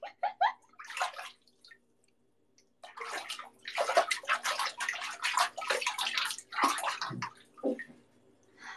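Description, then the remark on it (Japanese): Bathwater sloshes and splashes in bursts as someone rises and gets out of the tub of a unit bath, with a short quiet pause between surges of water movement and a few drips. “出ようかな、風呂。”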